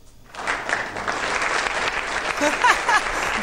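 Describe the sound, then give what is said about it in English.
A crowd bursts into applause, a dense steady patter of many hands clapping that swells slightly and holds for several seconds, with a few faint whoops or voices rising near the end. “Yeah, okay, sorry, I got an applause, sorry, I really forgot about that, but I have it.”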